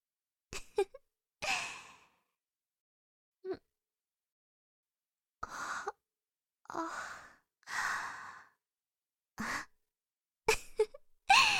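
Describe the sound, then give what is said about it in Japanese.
A series of breathy, drawn-out yawns and sighing exhales, about half a dozen, separated by short silences and a few soft mouth clicks, with no talking. “あ、お姉様、あくびが出てる。”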